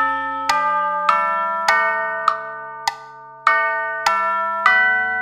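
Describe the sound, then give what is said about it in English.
A small clock chiming, with clear ringing strikes roughly every half second in a steady rhythm, each tone lingering into the next. Moderately loud, with no voices. “Tick tock, tick tock, I have a little clock. Tick tock, tick tock, it's chiming on the dot.”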